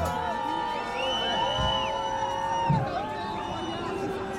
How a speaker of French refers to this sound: Ça, c'est une petite hola pour l'arrivée de l'hélicoptère. Mouvement de foule là.